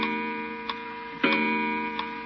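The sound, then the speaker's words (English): An old weight-driven clock, wound by pulling its chain, ticks slowly and steadily, a few sharp ticks over a low, humming metallic ring, with one louder clunk partway through and no voices. “Now it's wound until the weight works up to the top again. That's neat. This isn't a bad old clock, huh?”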